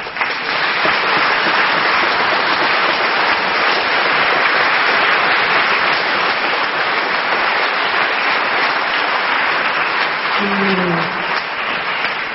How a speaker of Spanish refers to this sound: Yo quería, después voy a seguir hablando, pero quería pedir un aplauso para todos ellos.